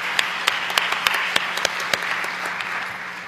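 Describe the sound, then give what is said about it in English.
Audience applause, a dense wash of many hands clapping steadily with a few sharper claps standing out, moderately loud and sustained throughout, with no voices, for councilors who volunteered as tellers in an election at an ALA Council meeting. “Let's give them a hand and thank them for volunteering.”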